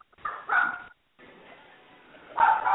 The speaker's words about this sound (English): Somebody's got some dogs going at it.